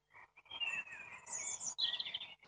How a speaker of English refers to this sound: from County Antrim, Ballymena, and this is Birdsong.